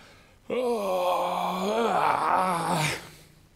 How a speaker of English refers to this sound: So then you get up out of the bed and you yawn.